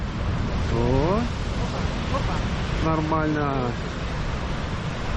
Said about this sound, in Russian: Нормально. Так, еще волна пошла. Давай, вскарабкивайтесь. Опа. Удержался, убежал.